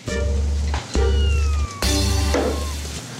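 A cat in a cat cafe meows loudly in a few drawn-out, wavering cries, set against a steady low background hum, with no talking.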